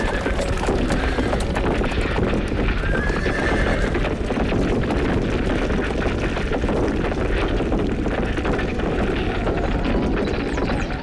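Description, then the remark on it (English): A horse whinnies briefly amid a steady, busy, loud clatter of hooves, set against a constant rushing, churning background noise with no voices. “Yes, thanks to that magnificent horse.”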